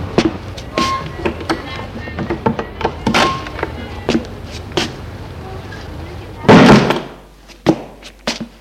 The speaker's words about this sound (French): Elle ouvre la porte de son allée pour le faire rentrer.